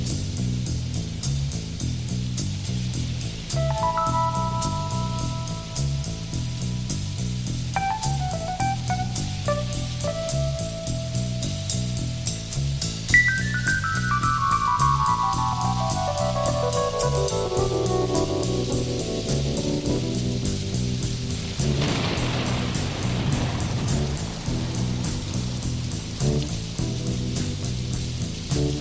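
A rock song's instrumental opening: steady rainfall hiss under a pulsing bass line, sustained keyboard chords and a long descending electric-piano run, with no singing yet.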